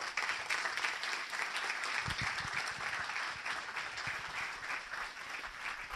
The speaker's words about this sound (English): So please give a round of applause to